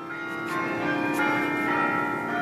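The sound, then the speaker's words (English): Large carillon tower bells at the University of California ring together in a dense, sustained wash of overlapping tones, loud and resonant, with fresh strikes blooming over a continuous humming drone and no voices. “And I've always loved bells. And the bigger the bell, the mightier the sound.”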